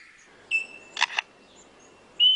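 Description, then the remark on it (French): A lyrebird imitates a camera shutter: two quick mechanical clicks in the middle, framed by sustained whistled tones, all alone with no speech. “Le bruit de l'appareil photo, par exemple. Des appareils photos de différents modèles.”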